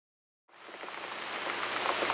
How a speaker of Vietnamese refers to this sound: Bóp! Một giọt mưa lớn rơi xuống đất, cách chỗ họ chưa đầy một gang tay.